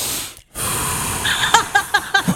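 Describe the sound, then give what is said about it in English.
A voice imitates heavy, panicked breathing: a long hissing inhale, then a run of quick, sharp gasping breaths in and out, loud. “It would be a lot of ins and outs. Yeah, a lot of keep it calm. A lot of breathing, a lot of”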